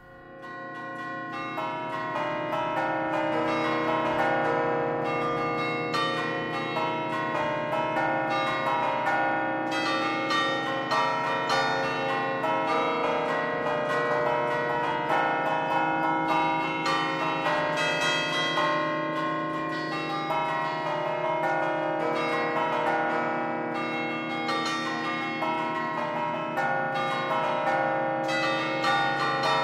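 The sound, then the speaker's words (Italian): Antique church bells ring continuously in a dense, overlapping peal, their rich metallic tones and long resonant hum filling the space loudly and steadily for the whole stretch, with no voices. “Abbiamo approfondito il patrimonio delle campane antiche, campane cinquecentesche, campane seicentesche, in particolare della Torre Civica di Bergamo, di cui si è occupata Chiara Bernazzani”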